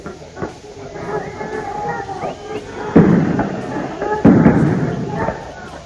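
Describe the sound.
Police in Córdoba fire tear gas launchers at students throwing bottles and molotov cocktails, around 19:50: two loud, booming shots a little over a second apart, with a sharper pop earlier, over a noisy background of shouting voices and commotion.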